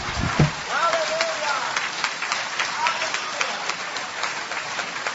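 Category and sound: crowd, audience applause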